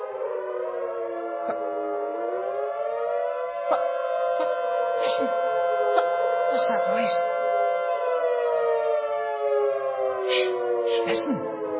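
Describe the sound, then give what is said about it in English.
A war siren wails loudly and continuously, its droning tone climbing slightly in pitch early on and then holding steady for the whole stretch, with a few faint clicks and bumps underneath. “A war siren? You're exactly right.”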